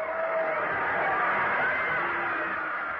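football crowd cheering

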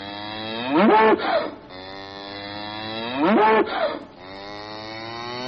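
cow mooing

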